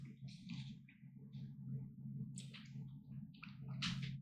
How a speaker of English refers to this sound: Sorry about that, guys. I had to drink some water.